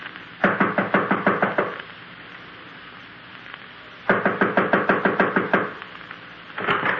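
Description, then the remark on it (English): Someone raps on a second-floor apartment door in quick bursts of about eight or nine sharp knocks, pauses, knocks again the same way, then starts a third round. No one speaks. “This is it. I'll knock.”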